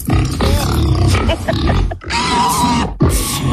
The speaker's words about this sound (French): Petit cochon.